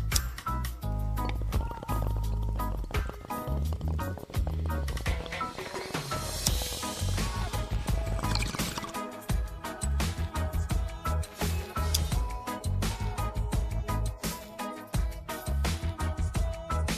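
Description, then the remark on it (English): Water bubbles and gurgles loudly in a bong that holds a lot of water, during a long, steady hit from a freshly packed bowl: a dense, rapid churning that runs without a break and with no talking. “And I really love these I love this piece too, because you can put a lot of water in it.”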